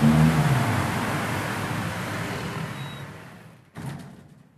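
Steady traffic rumble on a city street, often well above 53 decibels, a broad droning wash of engine and road noise that gradually fades, then a brief thump and a short swell of vehicle sound at the end.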